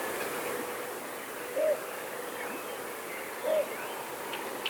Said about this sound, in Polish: Jeżeli usłyszą Państwo nad stawami szczekanie psa, ale takie bardzo regularne, cichutkie, może się okazać, że to właśnie nie gdzieś tam domowy zwierzak kilometr dalej, tylko naprawdę 20 metrów obok nas siedzi bączek i tylko co chwilę takie wow.